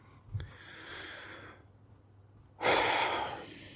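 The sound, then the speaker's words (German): A man breathing heavily: a drawn-out, airy inhale followed after a short pause by a loud, forceful exhale like a deep sigh, with no talking. “Da muss er erstmal wieder schwer atmen.”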